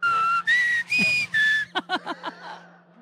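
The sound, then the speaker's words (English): Whistled bird-like calls: four long, steady, clear notes, each a little higher than the last, followed by a quick run of short chirping trills that fade out. A low hum sits underneath. “It's like fucking bird calling in here all of a sudden.”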